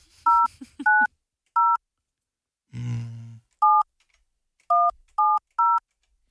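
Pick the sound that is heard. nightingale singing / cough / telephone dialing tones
telephone dialing tones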